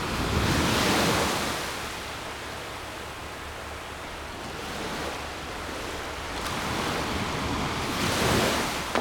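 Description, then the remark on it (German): Ocean waves break on the shore in steady, rolling washes, surging and receding every few seconds, with a low wind rumble underneath and no voices; the water is very cold. “Gehen wir das nächste Mal runter und stellen die Füße in die Wellen.”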